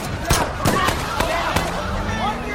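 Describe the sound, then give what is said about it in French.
Four or so sharp gunshots crack out at irregular intervals across a couple of seconds, loud, fired in a parking lot at night, over a busy, murmuring background with some indistinct voices. “L'embrouille monte alors d'un cran quand des coups de feu retentissent sur le parking.”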